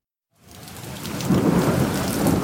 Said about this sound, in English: It's a dark and stormy night.